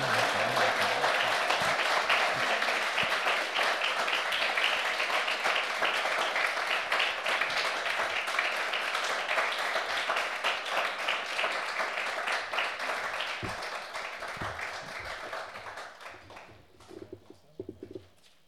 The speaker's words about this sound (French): Je vais le laisser venir. Mais on continue tant qu'il n'est pas là, on applaudit.